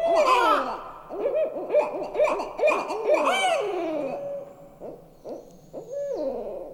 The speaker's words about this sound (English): And these owls are two owls near their nest, and they're announcing their territory because they live in this area of very high owl density.